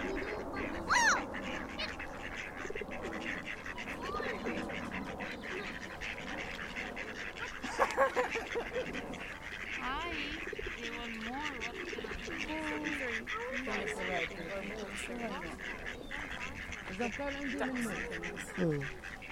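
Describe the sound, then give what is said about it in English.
A busy flock of ducks, about six on the grass and around a dozen more in the water with a couple coming ashore, quacks continuously, calls overlapping in a steady chatter, with a few louder bursts and people talking quietly in the background. “Because it reminds me of when I was little and feeding the ducks.”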